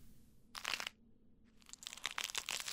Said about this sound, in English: I'd torn paper all my life, but this was different. Wet. Wrong. The sound of skin giving way was like wet leather being slowly shredded, each horrible tear punctuated by a sound I could only describe as a sick, wet pop.